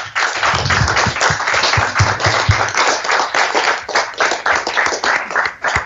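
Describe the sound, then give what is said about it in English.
A crowd at Radio Newark Sport applauds three people from Newark and Sherwood sport steadily for several seconds, dense overlapping hand claps forming a loud, continuous wash of sound with no voices over it. “Come on, another round of applause for them.”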